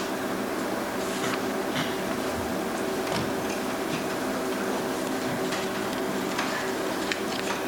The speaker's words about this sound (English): The chimes ring on wood and metals, pendulum swinging, the dust never settles. Speaking volumes without having to talk, the time machine, antique grandfather clock.